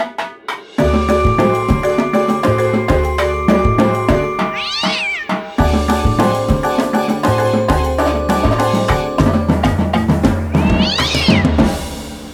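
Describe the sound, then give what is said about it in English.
A cat meows twice, a few seconds apart, as a robot butler chases it, its rising-and-falling cries cutting through loud, steady, rhythmic music playing throughout. “Oh dear, it's chasing the cat again.”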